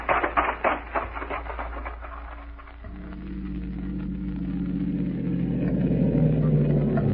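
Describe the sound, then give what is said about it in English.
A car engine drones steadily, its pitch and loudness climbing as it picks up speed along a road that joins State 12 about half a mile ahead, after a brief burst of rhythmic clattering at the start. “Road your car's on cuts into State 12 about half a mile ahead.”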